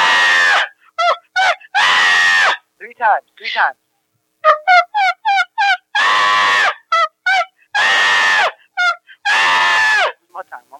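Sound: person screaming loudly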